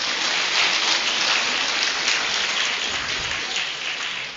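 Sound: big round of applause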